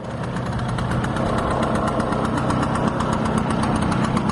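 A 1958 Vespa 125 scooter engine runs steadily while being ridden through the streets of Rome, Italy, a buzzy, rattling two-stroke putter with a fast pulsing rhythm, loud and continuous throughout with no voices.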